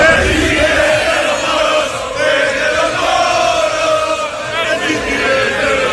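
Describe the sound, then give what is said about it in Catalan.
A large crowd of Real Madrid football ultras chants and shouts together in Manchester before a match against Manchester City, a steady, loud roar, many voices overlapping continuously with rising and falling swells throughout, including the chant 'El City es de los moros'. “I si no, atenció al que es va sentir ahir, a Manchester, abans del partit, si pareu bé l'orella, sentireu clarament els crits.”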